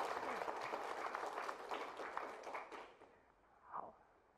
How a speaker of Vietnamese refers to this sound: Có, xin hãy cho một tràng pháo tay cổ vũ.